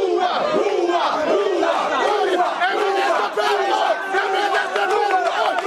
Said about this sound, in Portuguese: O primeiro-ministro cessante, depois de exercer o seu direito de voto, foi vaiado pelos eleitores.